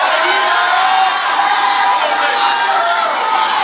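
An audience shouts and cheers continuously after being asked to shout if God opened a gate for them, a dense wall of overlapping voices and whoops that stays loud and steady throughout, with no single voice standing out.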